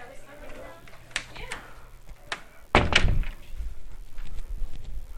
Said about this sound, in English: And I'm going to shut this door just to get a little more quiet.